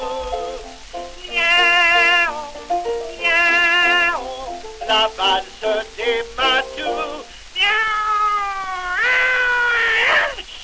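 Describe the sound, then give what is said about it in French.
Cats meow loudly, with two long drawn-out wails, then a quick run of short meows, and finally a stretched, wavering caterwaul. No one speaks. “faisant une valse effrénée, plusieurs matous, miaou, miaou, comme des fous, miaou, miaou, valsaient gaiement en répétant, miaou, miaou”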